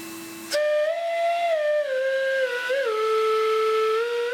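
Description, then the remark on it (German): An ancient vacuum cleaner played as a flute, built by Toni Bartel, who reversed its motor so it blows instead of sucks and turned its metal tube into a flute like an organ pipe: after a brief motor drone, a loud, breathy whistle-like tone holds steadily, its pitch sliding gently down and wavering, with no talking. “Auch aus einem uralten Staubsauger stellt er ein Instrument her.”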